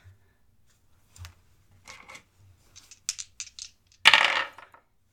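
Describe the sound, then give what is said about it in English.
Dice being rolled for a dexterity check rattle and clatter across a hard surface, a few light scattered clicks building to a louder tumbling burst near the end, with no voices. “Roll the fucking dice.”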